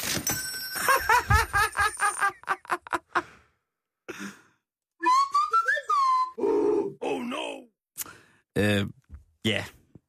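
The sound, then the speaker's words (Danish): A newly set novelty mobile phone ringtone plays on its own: a quick run of bright, ringing tones, then a string of loud voice-like sighs, grunts and gliding whoops in short bursts with pauses between. “Jeg har lige fået ny ringetone. Prøv at høre den her.”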